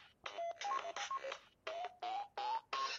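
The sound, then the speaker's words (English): A phone gives a quick run of short electronic beeps as its volume buttons are pressed to turn the volume down, about seven in a row with small gaps, fairly loud, with no talking over them. “Okay, I don't know if any of you heard that. It's not letting me turn down my volume on my phone.”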